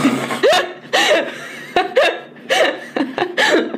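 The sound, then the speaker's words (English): Bursts of laughter with sharp, hiccup-like, fart-like nasal snorts breaking through, about eight quick gasping spasms in under four seconds, fairly loud, no clear speech. “I'm sorry, it's like a fart noise on my nose.”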